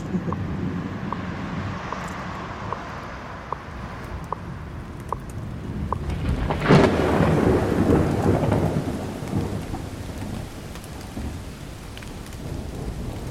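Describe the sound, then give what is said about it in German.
Steady rain falls in a forest at night, with scattered drips tapping and a rumble of thunder swelling partway through before the downpour settles back into a constant hiss. “Regen und Wald nachts als Kombi.”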